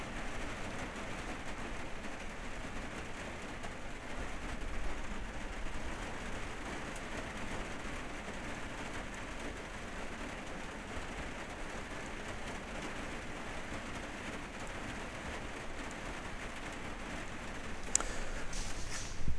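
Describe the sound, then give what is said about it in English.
Steady, heavy rain drums on the roof of a little house at a campground near Forest Lake, Michigan, around midnight, a dense continuous patter with no pauses, with a couple of sharper taps near the end. “but it is so great to be basically in your little house as the rain pours down on the roof.”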